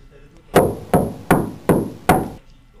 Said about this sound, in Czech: Jednoho dne byl Smolíček sám doma, když tu se ozvalo klepání na dveře.